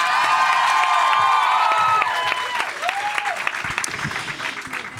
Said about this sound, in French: Mesdames et messieurs, faites un tonnerre d'applaudissements pour Lorraine.